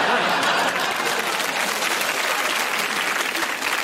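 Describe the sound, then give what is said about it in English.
A large crowd cheers and applauds loudly and continuously, a dense wash of clapping and shouting voices filling the space for several seconds. “Give us a cheer if you would gladly take money to chase mice around Downing Street.”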